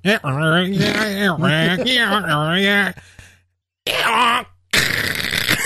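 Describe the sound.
A man's voice imitates a donkey's bray with wavering, strained groans that rise and fall in pitch, then a short pause, another voiced burst and a harsh, breathy rasp.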